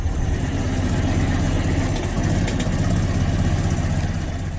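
A modern recording of a vintage Ford Model T engine, a car that debuted in 1908, idling with a loud, steady mechanical rumble, continuous, its low chugging throb and rattling clatter holding even throughout with no voices.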